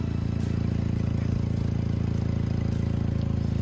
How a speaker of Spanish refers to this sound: Puedes pensar que es un martillo neumático, pero no. Es el tubo de escape de un coche al que le han robado una pieza que se llama catalizador.